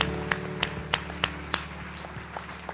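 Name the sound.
audience clapping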